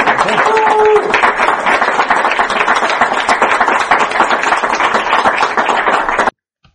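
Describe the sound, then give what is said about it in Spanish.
Steady, dense applause from a crowd at a book presentation fills about six seconds at an even, loud level, with a brief whistle-like tone early on, then it cuts off abruptly into silence. “Fran, que te mereces un aplauso, que lo has hecho muy bien, hombre.”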